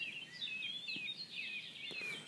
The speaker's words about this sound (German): Da haben wir eine neue Art, kann sein Bruder der Gartengrasmücke, ich sag jetzt mal 4.40 Uhr. Das ist eine Mönchsgrasmücke.